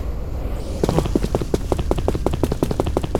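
Quick, evenly spaced footsteps patter along in a steady running rhythm, each step a crisp tap, starting after a brief quiet moment and continuing to the end with no voices.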